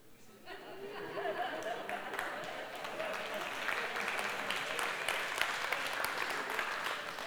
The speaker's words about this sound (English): Wow. That's the first applause that I had on that one.